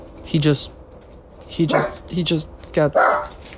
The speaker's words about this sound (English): Sorry, my dog's barking.